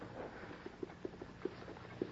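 A white horse's hooves clip-clop in an uneven, steady rhythm against a quiet outdoor background, the soft hoofbeats growing slightly louder as the horse approaches.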